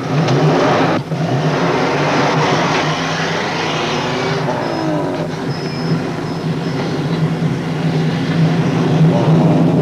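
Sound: truck engine driving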